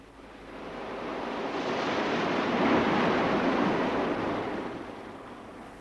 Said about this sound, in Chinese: 老头又走向蔚蓝的大海，蔚蓝的海水不安静起来，他就开始叫唤金鱼。